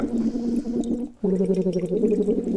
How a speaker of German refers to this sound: Und ihr seid gerade beim Gurgeln. Wir machen uns gerade warm. Okay. Und ja, wenn du willst, blubberst du mit.